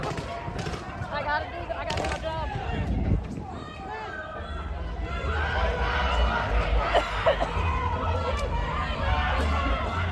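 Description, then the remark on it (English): A loud protest crowd of many voices shouting and talking over one another, as police and federal agents deploy OC canisters and less-lethal munitions, with steady low rumble underneath and sharp bursts and cracks scattered through, the din swelling louder in the second half. “Totally emboldened crowd.”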